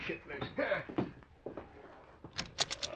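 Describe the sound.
A door opens as someone answers it. A quick cluster of sharp latch and handle clicks comes near the end, after a stretch of someone talking.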